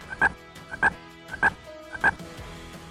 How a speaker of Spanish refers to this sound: Es una rana.